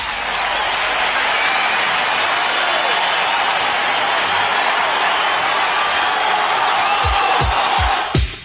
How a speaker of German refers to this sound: Dieser Titel hat wirklich einen Applaus verdient.